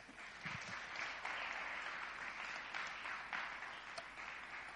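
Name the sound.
round of applause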